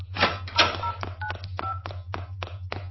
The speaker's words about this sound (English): What are you doing? Phoning for a taxi so I can make an escape.